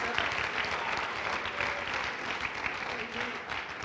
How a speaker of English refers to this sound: Oh, why don't you clap your hands to the Lord? That's powerful.